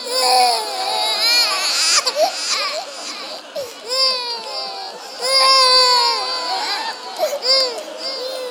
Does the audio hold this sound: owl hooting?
no